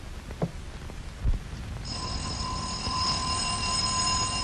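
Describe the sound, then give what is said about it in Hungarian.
After a couple of soft thumps, an electric doorbell starts ringing with a steady, shrill, buzzing tone that holds unbroken for the last few seconds. No one speaks. “Csengettek”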